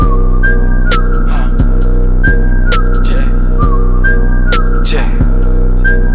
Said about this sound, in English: Blow the whistle, aye, blow the whistle, aye, blow the whistle, aye, blow the whistle, aye.